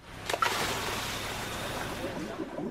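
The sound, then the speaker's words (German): Underwater bubbling from a diver breathing in and out while exploring the sea: a burst of bubbles near the start, then a steady, rushing gurgle that continues without pause. “Mal abgesehen vom Ein- und Ausatmen des Tauchers, von dem Geblubber also, das Menschen produzieren, wenn sie das Meer erkunden, auch ansonsten geht es ganz schön laut zu unter Wasser.”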